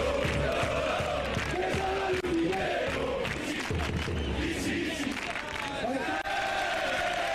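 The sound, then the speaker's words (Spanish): A huge stadium crowd chants and cheers for the Barcelona kit man on his last day with the club, calling for him to come out, in a sustained, loud roar, with rhythmic chant swells and bursts of shouting layered over a dense wall of voices throughout. “recordamos cómo te gritaban y te laureaban en el campo, ¿no?”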